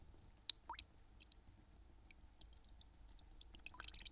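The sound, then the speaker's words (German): A wet cloth is carefully squeezed out over a vessel of water to make a splashing sound effect, producing soft squishing sounds and a scattering of small drips and trickles. It's quiet, with no one speaking. “Dann geben wir ein Plätschern dazu, für das wir einfach einen nassen Lappen nehmen und den vorsichtig über einem Gefäß mit Wasser ausdrücken.”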